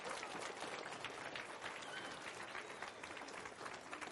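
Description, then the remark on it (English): A crowd claps steadily for about four seconds for children who got through all the commandments in a game, a dense, even patter of many hands at a fairly loud level with no pauses or voices standing out. “All right, give everybody a round of applause for that.”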